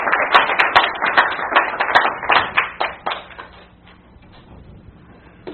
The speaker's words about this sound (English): Well, go ahead and applaud. He's worth it.